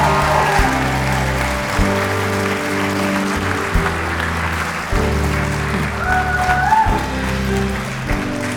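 An audience applauds continuously for several seconds for everyone who was baptized, a dense, steady wash of clapping from many hands, while sustained instrumental music chords play underneath and shift every few seconds.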